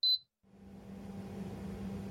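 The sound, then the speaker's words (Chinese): A single short, high-pitched electronic beep, a brief silence, then an air conditioner in a small room is switched on and runs with a loud, steady, continuous whooshing drone with a low humming tone underneath. No one speaks. “暖气居然这么凉，试试把空调打开会不会好一点。”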